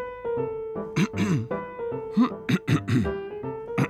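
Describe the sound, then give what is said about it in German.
A man nervously clears his throat again and again, a series of short, raspy bursts, while a steady sustained tone hums underneath. “Und wenn er nervös war, dann fing er an, sich zu räuspern.”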